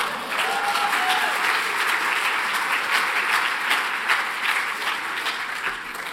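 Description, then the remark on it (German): An audience breaks into sustained applause, a dense, steady crackle of many hands clapping at an even loudness for about six seconds, with no voices rising above it. “Es ist nicht angebracht zu klatschen, weil die Aussagen sind nicht bedeutend, wie ich morgen früh zeigen werde.”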